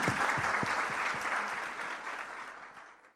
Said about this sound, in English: And that concludes the questions with the candidates this evening. I'd really like you to thank them with a round of applause for their generosity.